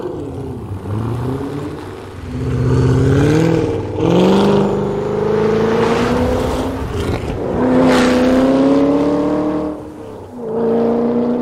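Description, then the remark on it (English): The engine of the newest version of the Ford racing car revs hard and loud during a test drive out west, its pitch climbing and dropping through several gear changes in a continuous roaring run, with no voices. “A few months after this, The pit crew and the whole racing team, including Carroll Shelby and Ken Miles and his son, head out west to test drive the newest version of the Ford racing car.”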